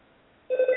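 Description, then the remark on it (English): After a near-silent moment, a home telephone abruptly starts ringing, a loud, harsh electronic tone that is cut off a fraction of a second later. “Loudest home phone I've ever heard in my life.”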